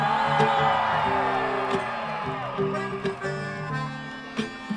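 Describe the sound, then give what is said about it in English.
A large crowd yells and cheers loudly and continuously, with whoops and shouts rising out of a dense wall of voices, at a live outdoor concert, the audience on the grass and at the front yelling after the performer urged them to. “I just wanted to get you to yell.”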